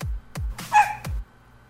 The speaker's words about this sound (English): why did you add like the dog barking? That was the best part, I think.